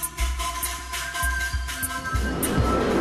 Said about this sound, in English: I'm here in northeast Tokyo in the bustling Asakusa neighborhood. There are lots of people on bikes and buses whizzing by.